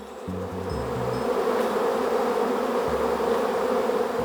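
wasps buzzing

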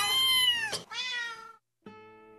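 cat meowing

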